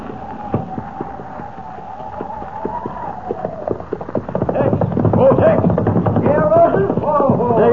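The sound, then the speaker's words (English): Saddled horses' hooves clip-clop in a steady, even rhythm as riders set off, growing busier and louder as more hoofbeats join, with voices calling out over them toward the end. “Got your horses all saddled and ready.”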